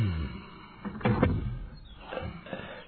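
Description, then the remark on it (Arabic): A door is pushed shut tightly in a cellar, with a firm, muffled thud and a short scraping creak, against a quiet background. “أغلق الباب بإحكام”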